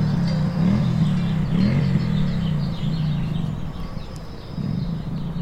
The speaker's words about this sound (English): And to hear a sound like a motorcycle engine kind of just out of your ear range, it really kind of startled me for a second.